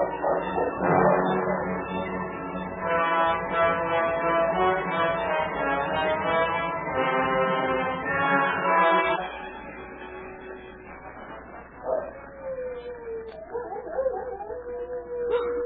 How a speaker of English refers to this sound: It is more wolves than one. They're answering each other.